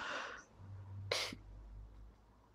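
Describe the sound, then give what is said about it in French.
A single sharp sneeze bursts out, preceded by a breathy intake of air, with a low steady hum in the background and no talking. “Yarhamukallah.”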